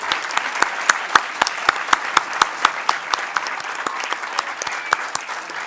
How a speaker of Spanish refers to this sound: Así que yo quiero pedir un aplauso para Mari.